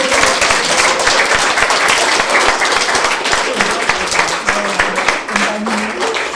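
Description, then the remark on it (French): A crowd applauds steadily for several seconds at an art workshop presentation for parents, a dense, even roar of many hands clapping at constant loudness, with a few faint voices murmuring underneath. “Donc je voudrais qu'on les applaudisse très très fort.”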